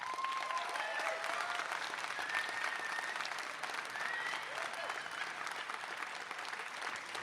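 An audience applauds steadily for several seconds, dense clapping at an even level with a few faint voices and whistles mixed in.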